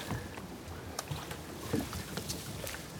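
A motorboat that had been rowed is dragged up onto the shore, its hull giving off irregular scraping and knocking sounds, with steady wind noise and lapping water in the background.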